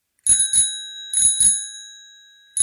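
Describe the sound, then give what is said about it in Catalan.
A bicycle bell rings in quick double strikes, two pairs with a short gap between, then a fifth ring at the end. Bright, high, metallic tones linger and fade after each pair. “Aquest em sembla que molta gent l'agrairia perquè realment les bicicletes de Barcelona van com boges i els patinets igual, no?”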